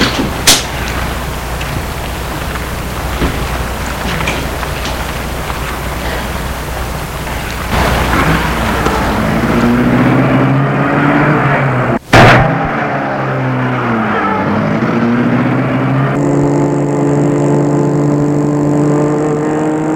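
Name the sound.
car door closing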